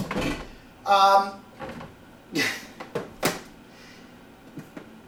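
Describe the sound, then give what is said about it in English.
An air fryer being unplugged, heard as a run of plastic clunks, rattles and scrapes with a short squeaky scrape near the start, then a few lighter knocks as things settle. “Alright, so I'm going to unplug it like they say to do, because, I'll say why in a minute.”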